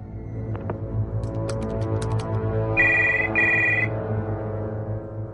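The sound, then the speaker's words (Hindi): A telephone rings twice in quick electronic trills, clear, over a steady low hum with a few faint clicks and taps before it, signalling an incoming call. “ये देखिए उस्ताद उलमा का भी फोन आ गया है।”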